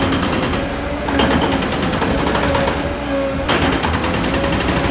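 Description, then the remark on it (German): Dense, loud machinery clatter with rapid mechanical rattling and a steady drone from three excavators digging earth onto a running conveyor belt that carries it into a truck, with eight workers digging at a railway tunnel construction site, continuous throughout with no voices. “Ich sehe hier 8 Arbeiter, die hier am Buddeln sind, in 3 Packern, die die Erde auf ein Laufband transportieren, wo er von diesem Laufband aus in einen Lastwagen geht und die überschüssige Erde wegtransportiert.”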